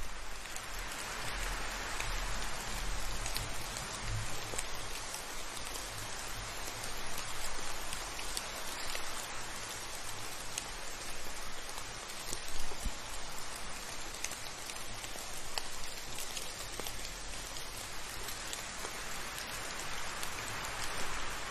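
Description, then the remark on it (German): Steady rain falls continuously with wind, a dense even patter of drops across the whole stretch with a faint low rumble underneath and no voices. “Etwas später wird auch der Regen und der Wind sich wieder beruhigen.”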